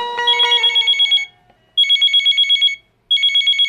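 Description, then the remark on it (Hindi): A telephone rings in loud electronic bursts, each a rapid warbling trill of bright tones, repeating three times with short silent gaps and no voices. “आही रे माई धोस गई, रुकी फोन करके रौरा भैया के बतावत रही।”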